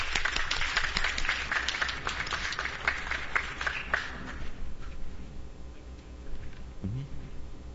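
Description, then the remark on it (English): A crowd applauds in the morning to welcome presenters of the Gideons program of Gideons International, with dense, brisk hand claps that stay loud for several seconds, then taper off into scattered claps and quiet background noise. “Let's welcome them with a hand clap this morning.”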